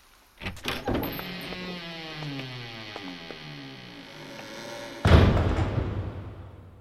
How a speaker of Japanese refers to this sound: また勝手に扉を閉めやがって。俺たちが来たって分かってるみたいだな。